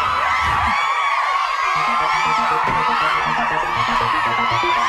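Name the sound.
crowd cheering sound effect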